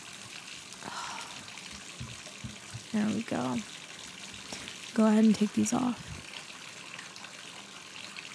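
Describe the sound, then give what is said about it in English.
Warm water pours steadily from a tap into a bathtub as a bath is drawn, a continuous soft rushing hiss that fills the background while a person speaks a few short phrases over it. “Here, feel the water. Is it okay? It's warm enough?”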